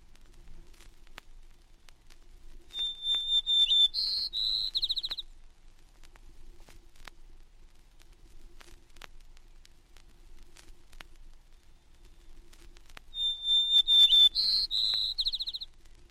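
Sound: white-crowned sparrow song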